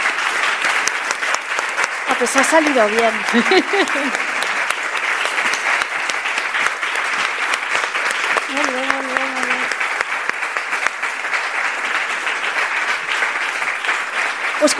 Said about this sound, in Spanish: Bueno, la qüestió, avui estem enregistrant el primer episodi, un tros del que estem vivint avui aquesta tarda, plegats i plegades, sortirà el podcast, així que us demano un aplaudiment, si us plau, perquè surti a la gravació.